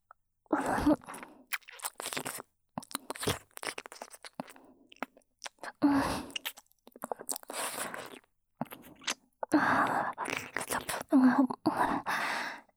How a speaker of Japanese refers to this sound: 耳ペロペロで先生のこと気持ちよくしてあげます。女の子にお耳舐められると、男の人って興奮しちゃうんですよね。